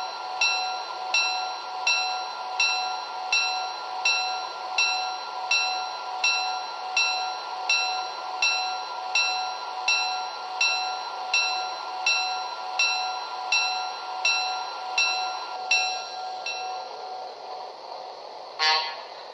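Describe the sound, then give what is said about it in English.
Passenger train number 16, the Olympia, at Missoula: its steady, droning horn tone sounds for a long stretch while a bell clangs in an even rhythm, about once a second, then both fade and a brief clank ends it. “train number 16, the Olympia.”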